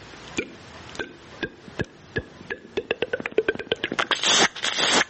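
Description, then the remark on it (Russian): Capercaillie song: dry, widely spaced clicks speed up into a rapid rattling series, then give way to a harsh, hissing, scraping whetting phrase at the end. “Вот последний момент, вот так называемое точение.”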